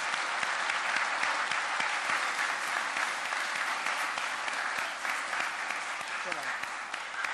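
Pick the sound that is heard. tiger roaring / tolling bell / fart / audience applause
audience applause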